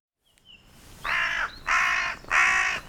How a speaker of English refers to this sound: Welcome, good crow. Let's hear it. What are they up to? Report in full, Mr. Munin.